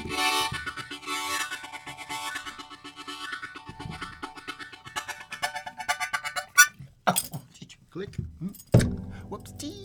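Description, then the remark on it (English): A guitar neck knocks against a microphone boom, giving metallic rattling and jangling with ringing string tones, then a few sharp, loud thumps near the end. “That sound is basically I bump my guitar neck against the boom.”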